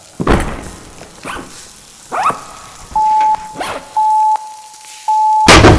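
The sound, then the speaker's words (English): A loud thud of a head knocking into a wall in a passageway cuts in at the end, after scattered knocks and a series of steady electronic beeps. “Ouch! I banged my head into a wall.”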